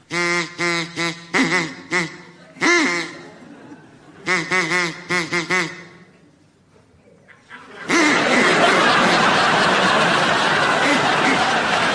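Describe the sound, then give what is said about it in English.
Several bursts of nasal, honking duck quacks, from a duck said to belong to King George the Sixth, come in quick clusters, loud, then a short lull before an audience breaks into sustained laughter and noise. “So, would you be good enough to make your duck quack now, please,”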